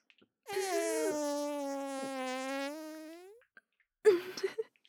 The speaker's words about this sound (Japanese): シスター様のおなら、とっても臭いでしょ？でも、この臭い匂いが、悪魔は大の苦手なんです。だから、我慢して、シスター様の臭いおなら、たくさん匂ってくださいね。